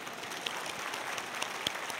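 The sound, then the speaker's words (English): An audience claps together, many hands blending into a steady, dense patter of applause at a modest level, with a few sharper individual claps popping out. No voices are heard. “Okay, we're going to clap. Let's clap.”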